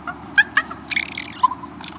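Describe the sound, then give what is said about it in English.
Soft, low raven comfort calls, warbling sounds made during mutual feather preening: a few short, gentle gurgling notes in quick succession, then a slightly longer murmur, with no voices. “It's called a comfort sound.”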